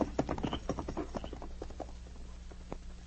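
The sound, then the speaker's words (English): Horses' hooves clip-clop in a quick, uneven rhythm as riders urge their horses on and set off toward a cave, loud at first and gradually thinning out as the animals move off, with a low steady hum underneath. “All right, let's head for the cave, then. We can grab a few hours' rest and then set out for White Horse. Get up! Get up!”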